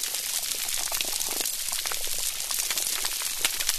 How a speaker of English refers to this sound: Now, it may just sound like some bubbling, but that's actually fish burping. But what's that crackling sound? Is it just the microphone? Are they near some underwater pocket spurting out air?